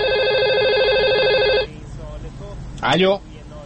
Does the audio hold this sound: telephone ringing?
yes